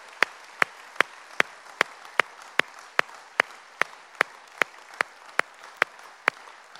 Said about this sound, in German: Kommt, ihr Lieben, wir geben Jesus mal einen majestätischen Applaus.